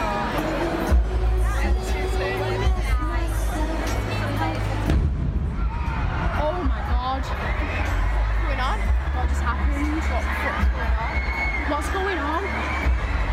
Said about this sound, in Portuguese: Uma jovem que estava dentro da casa de espetáculos estava gravando ali essa saída das pessoas e conseguiu captar esse momento em que a explosão aconteceu.